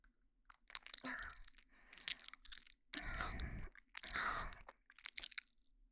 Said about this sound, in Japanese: 目の前で女の子が咀嚼しちゃってる。